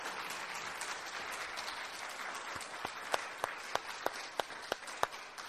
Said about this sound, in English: If you guys wouldn't mind clapping, we could give them a little round of applause at the end.